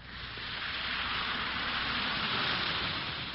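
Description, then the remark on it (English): A steady, dense fizzing hiss of an Alka-Seltzer tablet dissolving in water, bright and crackly, swelling slightly after the first half second and then holding evenly with no voices. “Listen to it fizz.”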